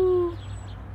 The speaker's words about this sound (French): Bon, moi j'ai envie d'aller enregistrer des oiseaux. Piou!